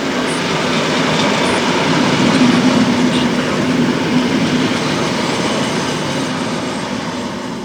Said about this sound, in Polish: Pociąg Regio ze stacji Poznań Główny do stacji Ućkaliska przez stację Jarocin.